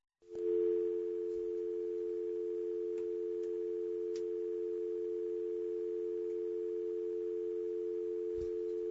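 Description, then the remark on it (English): A steady, continuous telephone dial tone hums at an even level for several seconds while a cell phone is being called, with no voices and only a few faint clicks in the background. “So we're going to dial her up on the on her cell phone.”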